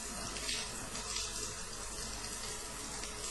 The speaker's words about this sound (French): L'eau. L'eau qui coule de la douche. Mais l'eau, c'est... Mais c'est du sang. Je me lave avec du sang.